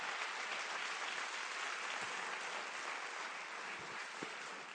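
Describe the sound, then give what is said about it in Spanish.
Steady applause from a large crowd, clapping for the Holy Spirit during a sermon on Pentecost, fills the whole stretch, a dense continuous wash of clapping at even loudness with no voices on top. “Entonces, si dale un aplauso al Espíritu de amor, de gracia.”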